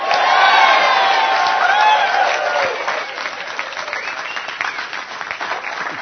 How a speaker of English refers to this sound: And I'm not going to tell you how much right now, and I'm not going to tell you who right now, but show of applause.